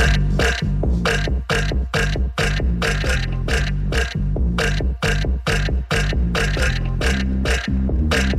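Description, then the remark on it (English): A remix of a pop song built from a singer's burp sounds: loud belches chopped and repeated in a steady, driving rhythm over a thick low bass, with no talking. “So you're going to hear some screams, some laughs, a bunch of burps.”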